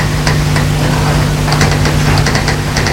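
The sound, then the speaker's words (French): A shower runs in a loud, steady hiss, broken by brief crackling splashes, with a faint low hum underneath and no one speaking. “Je n'entends pas. À cause du bruit de la douche.”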